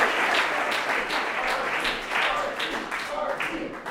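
Audience applause, a steady dense patter of many hands clapping at an even, fairly loud level for several seconds, with a few faint voices mixed in and no clear speech.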